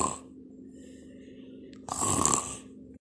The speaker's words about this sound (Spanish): Instantes después, el gigante comenzó a bostezar. Luego a cabecear unos minutos más, a roncar.